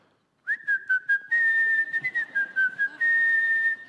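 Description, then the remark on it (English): A doctor whistles a bright, cheerful tune minutes before a delivery, after a brief silence, holding mostly steady high notes with small pitch bends and short breaths, continuing to the end with no talking. “I mean, he's like, whistle while you work.”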